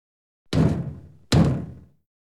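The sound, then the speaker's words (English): Two heavy, booming knocks on the very big wooden door of a castle, spaced nearly a second apart, each ringing out with a deep resonant tail before fading, with no voices. “He knocks on the door.”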